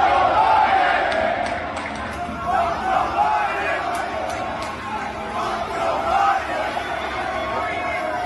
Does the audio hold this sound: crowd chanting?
yes